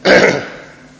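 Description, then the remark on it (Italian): A single rough throat clearing with a brief cough-like burst, loud at first and then trailing off quickly into quiet room tone. “Chiedo scusa, ma un po' di tosse.”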